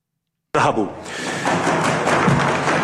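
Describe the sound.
At the UN in Geneva, diplomats stomp their feet and bang on desks to stop the Israeli representative from talking, starting abruptly into a loud, dense, continuous clatter of overlapping thuds, with a voice briefly audible at the start.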